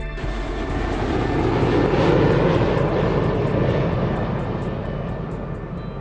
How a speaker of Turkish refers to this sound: Günümüzde tasarımcılar baykuşun kanatlarındaki bu özellikten yararlanıyorlar ve uçak kanatlarının üzerinde değişiklikler planlıyorlar. Böylece uçaklardaki sesin azalacağını düşünüyorlar.